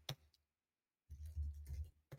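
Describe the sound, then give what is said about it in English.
Keyboard clicks: a single sharp tap, a pause, then a short run of thumpy key presses over a low rumble, ending with one more crisp click. No one speaks. “My finger's on the keyboard.”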